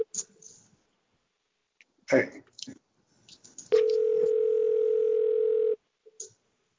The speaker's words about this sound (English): Okay. Whose phone is ringing? Not mine. It certainly isn't mine. I'm innocent this time.